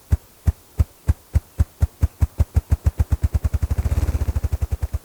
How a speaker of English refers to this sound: In spring, the loud wing thumping of male ruffed grouse brings new life to northern forests across the continent.